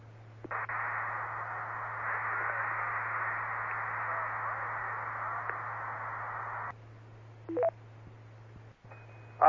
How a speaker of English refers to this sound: I've actually got it up right now, and we're getting nothing but interference. This thing started at 7:06 p.m., so I'm going to play this first, and then I'll come back with my comments.